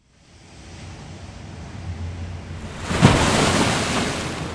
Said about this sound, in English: Oh, gosh, that was a huge wave, but it has not washed any selkies up. It's quite a destructive force, the sea, isn't it?